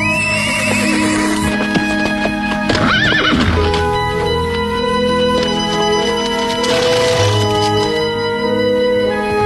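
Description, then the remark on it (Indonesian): A ridden horse gallops swiftly toward a bamboo bridge over the Oba river, with a steady clip-clop of hooves, letting out two loud, wavering whinnies along the way, one early and one near the end, with no voices. “Joko Umayyah menunggangi kudanya dengan tangkas.”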